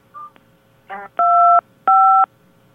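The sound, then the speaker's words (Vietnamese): Two loud, steady telephone keypad tones, each lasting under half a second with a short pause between, follow a few faint brief blips, as a caller presses buttons on her phone during a call. Nobody speaks. “Chị đừng bấm điện thoại nữa.”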